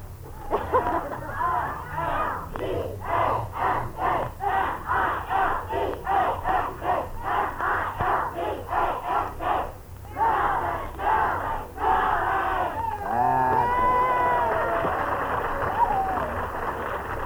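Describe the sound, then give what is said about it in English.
A high school senior class from Milbank, South Dakota, shouts its school yell, a rhythmic chant in unison of young voices, loud repeated bursts with a steady beat, then breaks into whooping and cheering that swells and trails off. “If any of you have a school yell when I mention your name, yell out your school yell.”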